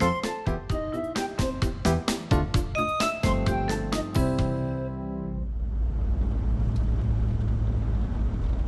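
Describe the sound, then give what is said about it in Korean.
A short musical sting gives way to the steady, low rumble of a car engine and road noise as an Uber car approaches from a distance, growing fuller and holding at a moderate level through the end. No one speaks. “멀리서 자동차가 다가옵니다.”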